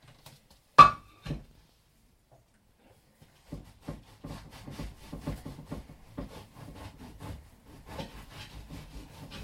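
A sharp knock on a wooden chopping board, then a pause before steady rhythmic sawing strokes of a knife slicing bread for breakfast, moderately loud, with repeated scraping against the board.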